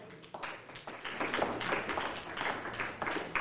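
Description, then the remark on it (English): Scattered, uneven half claps from a crowd at the Grace Christian Fellowship church, sparse and a little ragged, with a faint murmur of voices underneath; steady and moderately soft throughout. “Just half claps.”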